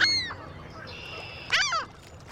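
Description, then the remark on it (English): A herring gull calls: a thin, falling cry opens, then after a pause comes a louder, harsh squealing call with downward-sliding notes, over a soft low background rumble. “Hollow bones help birds like this herring gull sail around in the air without using much energy.”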